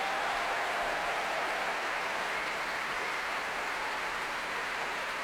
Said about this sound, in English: A huge cheer going around the Royal Albert Hall for the Choir of the Enlightenment. They're really the stars of this work.